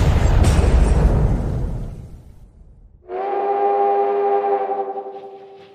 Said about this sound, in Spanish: Solo que aquí, por alguna extraña razón, las gaviotas explotan.